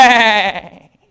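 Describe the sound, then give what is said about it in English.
A goat lets out a single loud, wavering bleat as it careens by and dives headlong into a hole, the bleat trailing off quickly into silence. “And as they're marveling at the apparent depth of a hole, a goat goes careening by and dives headlong into the hole.”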